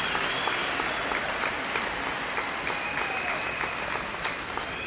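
Sustained standing ovation from a large crowd at an ANC gathering, applauding ANC campaign workers and volunteers after an election: a dense steady wash of clapping at even loudness throughout, with a few sharper individual claps standing out from the mass.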